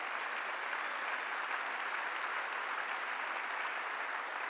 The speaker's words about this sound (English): Clap your hands and rejoice.